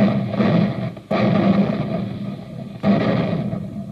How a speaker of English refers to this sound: Well, it takes tons of smokeless powder to keep those big guns booming, the big guns that help our fighting men to victory.